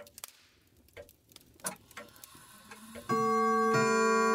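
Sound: clock ticking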